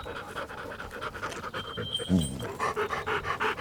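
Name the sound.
dog panting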